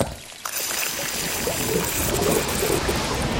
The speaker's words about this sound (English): Oh, look, darling. What a lovely fountain. Yes, and apparently it's good luck to throw a coin in it. OK, here goes.